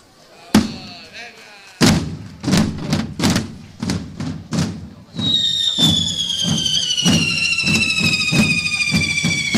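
A door slams sharply, then another heavy bang is followed by a quick run of loud thuds, before a high, sustained squealing whine takes over to the end.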